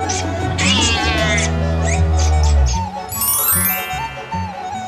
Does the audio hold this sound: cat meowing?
yes